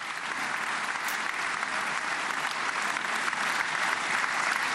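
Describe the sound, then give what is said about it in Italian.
Sustained applause from a large audience in the Israeli parliament hall for Steve Witkoff after praise from Trump, a dense, steady wash of many hands clapping at an even loudness for the whole stretch, with no voices standing out. “Qui ci sono gli applausi che Witkoff si sta prendendo dopo le lodi di Trump.”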